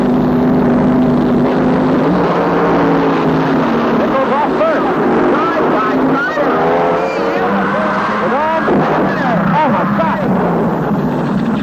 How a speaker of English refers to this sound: September 1970, NHRA Nationals, Indianapolis Raceway Park. Two slingshot dragsters. I was there for ABC. The near lane, Don Prudhomme. The far lane, Jim Nickel. They are both staged.